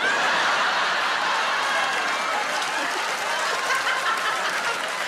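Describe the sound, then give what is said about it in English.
A woman cheers from the audience amid steady, dense crowd applause and scattered laughter, loud and continuous for the whole stretch, with no one speaking over it. “I love that there's a lady cheering that I've just implied that she's from the felon, because you're clearly from the felon, yeah!”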